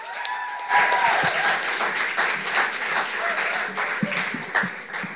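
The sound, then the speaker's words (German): An audience at a U20 Poetry Slam in Nürnberg bursts into sustained applause, a dense wash of many hands clapping at steady loudness throughout, with a few tonal whistle-like sounds and scattered cheers in the opening second. “Klatscht ihn mit einem 10-Punkte-Applaus ans Mikrofon.”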